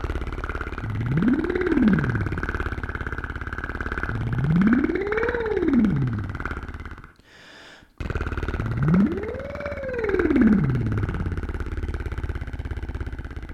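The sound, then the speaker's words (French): A buzzing voice does a relaxed-lip vocal warm-up exercise, imitating an idling engine revving up, making three rising-then-falling pitch swells over a steady low rumble, with a brief pause before the last one. “Puis on peut même commencer à mettre du son, comme si on avait un moteur qui tourne au ralenti, puis qu'on fait accélérer.”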